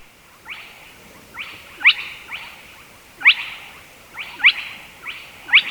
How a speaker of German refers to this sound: Das Tüpfelsumpfhuhn, wie auch die anderen kleinen Sumpfhühner, die ziehen im Winter weit weg, also Richtung afrikanische Sumpfpartien oder auch nach Indien